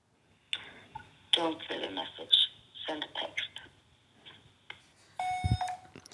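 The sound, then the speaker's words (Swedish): An unanswered phone call rings on, a thin steady tone under faint, muffled voices, then a brighter electronic beep sounds near the end. “Nej, hon svarade inte här, va? Hon vet säkert att det är vi som ringer.”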